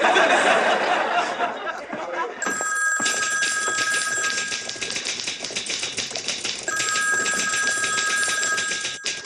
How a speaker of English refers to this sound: Huh? Your phone is ringing.